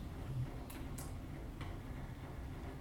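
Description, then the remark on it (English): A few faint, sharp ticks of a clock sound at a steady pace over a low background hum, with no one speaking. “They hear us tick like the clock.”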